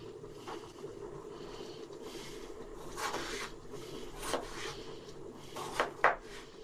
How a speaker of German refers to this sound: Hört ihr ihn atmen? Ich will ihn damit wirklich gar nicht angreifen, aber ich würde mir wirklich Gedanken machen, wenn ich nur da sitze und Gurken schneide und mich anhöre wie eine Dampflok.